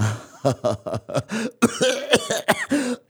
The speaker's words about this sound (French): je tousse un peu parce que on a beau être au Hodul, hein,